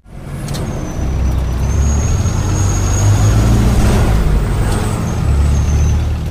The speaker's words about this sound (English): Traveling on a public bus from Davao City, I passed through Monte Vista town.